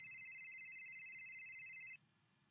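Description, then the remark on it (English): A mobile phone rings in a classroom during a teacher's announcement, a steady, high electronic trill for about two seconds, loud, over a low murmur of room noise, then cuts off abruptly. “Whose phone is that?”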